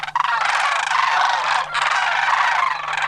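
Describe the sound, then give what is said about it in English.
A goose that lives with a flock of cranes honks loudly and continuously, harsh nasal calls running together with a brief break partway through. No one speaks. “What's with this goose?”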